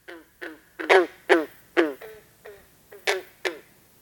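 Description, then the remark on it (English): A green frog gives a series of about nine twanging, banjo-like plucks, each a sharp harmonic note that quickly fades, spaced unevenly and fairly loud, with no voices. “Sometimes compared to the twang of a banjo string.”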